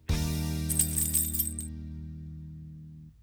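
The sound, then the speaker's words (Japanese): Bright metallic jingling of a bunch of keys shaken for about a second as someone looks for their keys on arriving home, over a sustained low ringing tone that slowly fades out. No one speaks. “鍵、鍵っと。あった。”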